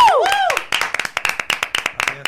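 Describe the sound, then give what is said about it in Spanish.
Audience applause for today's guest on a show: a burst of many overlapping sharp claps that builds into steady, loud clapping, opening with a few brief sliding whistle-like tones. “Vamos a dar un fuerte aplauso a nuestro invitado de hoy,”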